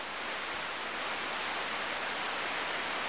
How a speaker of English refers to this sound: There are now operating several devices designed to catch and listen to signals from space. Most of the sound is cosmic static. But here, dimly heard and subtle, is a sound that might have a pattern to it.